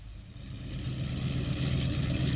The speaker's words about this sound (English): Buffeted by gusts of wind, the helicopter sinks slowly through a swirling curtain of snowflakes and sets itself down gently outside the small stone cottage.